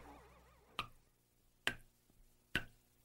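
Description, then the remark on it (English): Three water drops fall one by one into an empty bowl, each a crisp plink with a short ringing tail, spaced under a second apart, with no voices. “Think of a water droplet separated from its source, isolated, dripping into an empty bowl, displaced, apart from the whole.”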